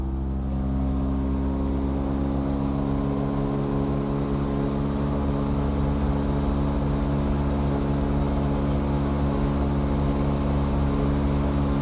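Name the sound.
air conditioner running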